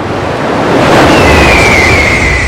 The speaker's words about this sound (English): Then, with a huge crash of water, something emerges. The night sky lit by the dazzling, blazing form of an inferno shaped into the form of a bird.